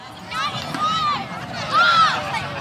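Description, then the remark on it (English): Children shout excitedly outdoors in a small meadow at the northern edge of Golden Gate Park, San Francisco, on a gray Saturday afternoon, taking turns launching a little white stomp rocket; two bright rising-and-falling cries stand out over a steady wash of crowd babble and open-air noise, fairly loud. “It's a Saturday afternoon in Golden Gate Park, and a handful of kids are taking turns sending a little white stomp rocket into the gray San Francisco sky.”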